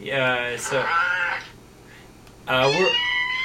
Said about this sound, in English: And it has been taken over by cat soundboards.